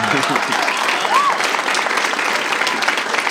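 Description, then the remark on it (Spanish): A crowd claps steadily for a few seconds, a dense, even patter of many hands with no pauses, loud and continuous throughout. “No le aplaudan mucho porque capaz está confundiendo redes sociales.”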